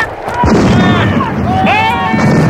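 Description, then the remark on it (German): A ship's cannon salvo erupts in a loud, sustained roar of overlapping booms, with a sharp blast near the start and shouting voices rising above the rumble. “Das war eine verdammt gut sitzende Salve.”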